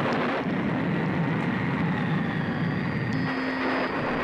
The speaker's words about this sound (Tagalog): Biglang ang ihip ng hangin ay lumakas.